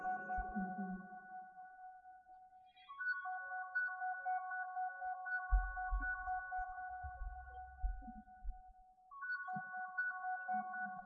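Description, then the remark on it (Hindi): A mobile phone ringtone plays a steady, repeating electronic melody of sustained tones, fairly loud and continuous, with brief pauses, while low rumbling thuds and faint background noise sit underneath. “somebody's phone is here.”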